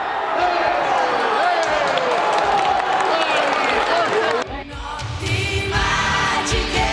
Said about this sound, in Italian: Paola Goisis ha detto che bel discorso che sto facendo, tutti che applaudono, invece era il gol.